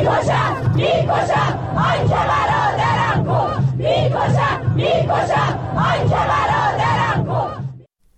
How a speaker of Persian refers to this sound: و سرانجام همین که ویدیوها و تصاویر منتشر شده در شبکه‌های اجتماعی نشان می‌دهد روز پنجشنبه در مراسم تشییع پیکر 2 شهروندی که بر اثر تیراندازی نیروهای بسیج در همدان کشته شدند، شرکت کنندگان شعارهای علیه نیروهای امنیتی سر دادند.